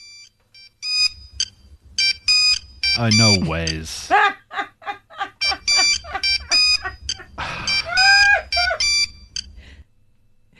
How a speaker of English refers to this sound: And then this is today's ringtone because obviously we all had those dit-dit-dit ringtones. Here's today's one.